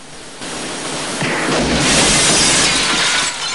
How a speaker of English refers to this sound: The second robber crashes through a shop window.